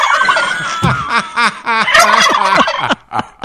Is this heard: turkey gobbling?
yes